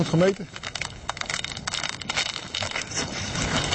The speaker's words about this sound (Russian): С утра уже делаем замеры. Хороший, темный лед. И то, что трещит хорошо, так и должно быть.